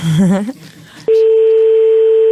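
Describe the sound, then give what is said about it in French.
A brief burst of voice gives way to a loud, steady electronic telephone dialing tone that holds unbroken for over a second, clear, as someone phones a person to tell them a joke. “Non, il faut que la personne décroche, ça s'appelle le téléphone.”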